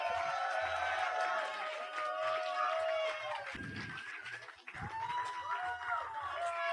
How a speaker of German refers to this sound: Nochmal einen kräftigen Applaus